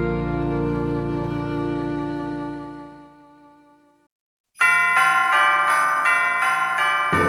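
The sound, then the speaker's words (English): A single deep bell tone rings out and slowly fades, then after a short pause bright Christmas bells peal in a quick, steady rhythm, loud with no voices. “The ringing of bells during the holiday season provides a joyful accompaniment”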